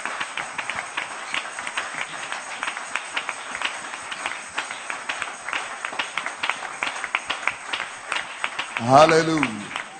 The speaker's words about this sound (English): Wow, clap these hands.